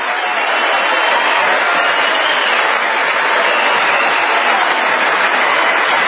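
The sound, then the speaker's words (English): Sustained applause from a large standing audience, a dense, steady wash of many hands clapping at once that stays loud and even throughout without a break. “A lot of clapping.”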